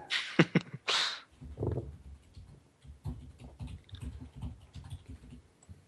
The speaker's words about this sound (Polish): Kto napierdala w klawiaturę? Sorry, to ja.